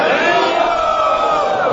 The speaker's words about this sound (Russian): Кто считает, что нет? Громко крикните «Хари Бол».